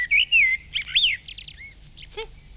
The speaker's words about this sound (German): Ja, selbst aufgenommen. Drüben am Fliederstrauch. Frau Amsel brütet bereits. Und Ihr Mann singt für Sie die hübschesten Lieder.